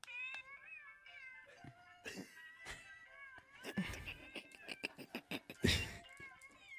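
A birthday card plays a tinny, electronic-sounding chorus of cat meows strung together into a tune, steady with bursts of brighter yowls.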